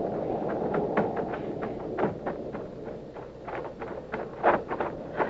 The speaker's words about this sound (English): What is it? Horses. A couple of horses coming in fast.